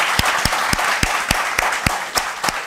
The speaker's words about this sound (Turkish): Ay helal olsun. Bir alkış daha hak yani.